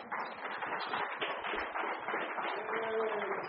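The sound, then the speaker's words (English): A church audience breaks into steady applause for its pastor, a dense, even clatter of many hands clapping that holds at full strength for several seconds, with a faint voice briefly rising through it near the end. “I wasn't looking for applause, but I'll take it.”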